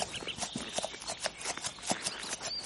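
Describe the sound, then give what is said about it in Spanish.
Horse hooves clip-clop in a quick, steady rhythm, a string of sharp knocks from one ridden horse moving at a moderate level, with no talking. “Para su caballo frente a una cerca que reza: si no quiere molil, no pase. Su caballo huye.”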